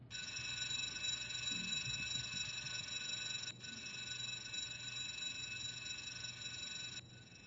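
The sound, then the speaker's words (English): Four electric bells, each inside a fiberglass box, ring one after another in a continuous, bright, buzzing jangle, with brief cuts between each bell's turn so their tones can be compared. No one speaks. “So now here you can hear all four of them side by side.”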